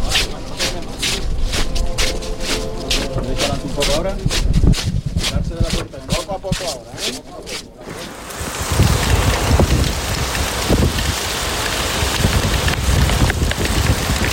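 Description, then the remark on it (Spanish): Steady rain pours onto a street outdoors during a religious procession of the Cristo yacente to the Cathedral, a dense, continuous hiss with irregular gusty bursts in the first half and faint, muffled voices beneath. “Y está la lluvia que podíamos escuchar.”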